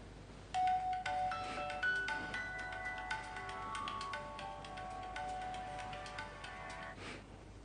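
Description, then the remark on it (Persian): A telephone rings in the middle of the night with a repeating electronic melody, tones chiming steadily for several seconds at a moderate level, with no one speaking. “الو چه عجب جواب تلفن ما رو دادین.”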